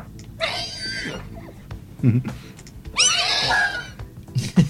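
Two shrill, quavering horse whinnies, the second longer and stronger, with short snorting bursts between them over a steady low rumble. No one speaks.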